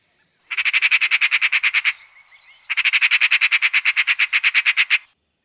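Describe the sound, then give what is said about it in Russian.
A magpie chatters in two harsh, rapid rattling bursts, the second longer than the first, each a fast even string of dry notes, loud with no voices. “Но тут сорока на дереве заметила, как по тропинке в лесу идет человек.”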